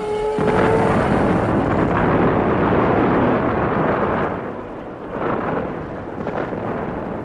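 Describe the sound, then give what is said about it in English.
A huge nuclear bomb explosion in the Nevada desert, making a mushroom cloud, erupts into a deep, sustained roar that rumbles on for several seconds, broad and heavy, slowly easing and then swelling again like rolling thunder. “Don't forget to book your coach trips around the Mushroom Cloud.”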